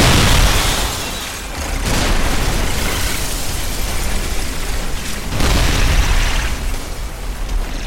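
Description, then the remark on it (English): Loud, rumbling explosions roll on without pause as parts of a high-rise building are destroyed amid fire, with fresh blasts swelling at the start, around two seconds and near five seconds amid a continuous roar of crumbling debris. No voices. “He made sure to make himself known, destroying parts of the structure that responded with fire and voluminous explosions.”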